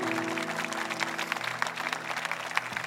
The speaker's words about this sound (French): Alors, vous devriez applaudir tout ça.